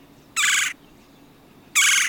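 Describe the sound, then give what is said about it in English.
A red-bellied woodpecker gives two loud, rolling churr calls, each under half a second, separated by a short pause. The calls sound clear against a quiet background, with no talking. “Why call it red-bellied?”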